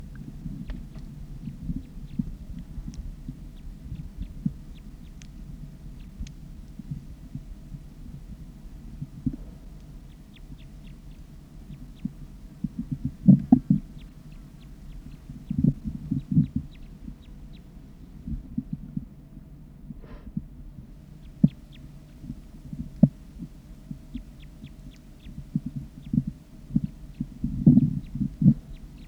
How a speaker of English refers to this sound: So recording, the bird's perched in the Douglas fir right above the car. It doesn't really seem to be showing much interest in the decoys down below. Stop. So recording, wild bird. Recording, it sounds like there are two birds.